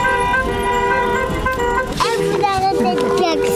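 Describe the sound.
A long, steady car horn blares for a couple of seconds amid street traffic noise at a street protest, then more honking continues as a voice starts talking over the din.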